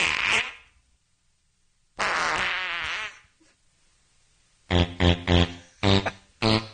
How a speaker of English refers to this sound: I got the bright idea to put the Peter Griffin and Michael Moore fart off contest that they had in the Family Guy episode